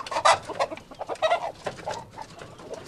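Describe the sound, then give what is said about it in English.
A rare, glossy black rooster clucks in a quick series of short, agitated calls, moderately loud, as a young farmer pulls it from a bamboo coop on a backyard farm, with rustling and handling noises around it and no one speaking. “has agreed to show me his favorite rooster. It's resting in a bamboo coop. He reaches in and tenderly pulls it out.”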